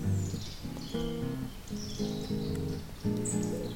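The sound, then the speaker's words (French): Many birds chirp and twitter in a small garden, scattered high calls overlapping against a steady outdoor background with a low, droning hum underneath. “Il y a beaucoup d'oiseaux là.”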